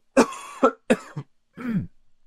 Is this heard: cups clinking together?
no